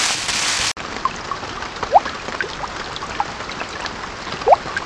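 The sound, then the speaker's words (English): Steady rain hisses evenly, with scattered drips and splashes popping out above the wash; a brief, louder burst of rushing noise opens it before settling into the constant patter. “Suddenly, it began to rain.”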